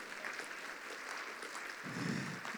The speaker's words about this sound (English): I love this church. You guys clap a lot. It's that doesn't happen before, so this is good for... Okay. Okay, now stop clapping.